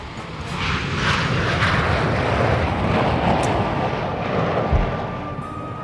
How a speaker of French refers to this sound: Concorde, voici un sublime oiseau qui prit son envol il y a maintenant 28 ans dans le ciel toulousain et qui continue à servir les rêves les plus fous.